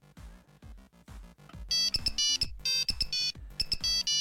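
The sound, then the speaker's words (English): A mobile phone ringtone plays a bright, repeating electronic melody, first a lower run of quick notes, then louder high-pitched beeping tones in rhythmic bursts, with no talking over it. “learn that we shouldn't have our phones on when we lunch with the Queen”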